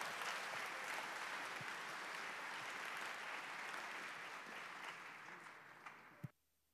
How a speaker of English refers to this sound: give a big hand and a round of applause for our speaker